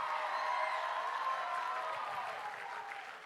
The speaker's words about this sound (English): Give Celine a round of applause.